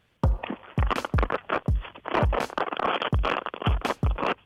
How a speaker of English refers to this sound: If you've ever wondered if there's a correct way to open Velcro quietly